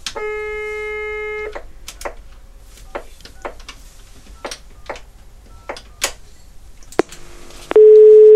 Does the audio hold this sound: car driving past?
no